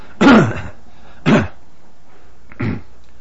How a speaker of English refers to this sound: Well, I just kind of squelched it a little bit there because I could have puked. Okay. It came up really strong. All right. Like I felt like if I took one more breathe, it would, you know, that's what it felt like.